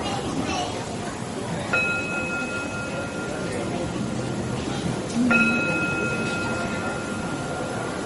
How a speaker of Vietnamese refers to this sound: Cho nên ví dụ như mình thỉnh chuông, mình thỉnh nè, quý vị nghe mà nó không có ngân, không có phát. Cho mình thỉnh tiếng chuông, mình phải thỉnh không ngang, không đứng mà sáng, để đưa cái tiếng chuông đi lên.